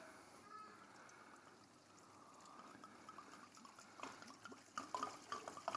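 Wine poured steadily into a sink bucket, a soft continuous trickle that turns louder and splashier toward the end, with no talking.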